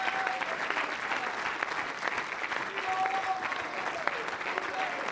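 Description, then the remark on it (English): A church audience claps hands in praise of God in a dense, sustained wash of applause with no clear individual beats, steady and fairly loud throughout, with faint scattered voices and brief tones beneath. “Let's clap our hands and bless his name.”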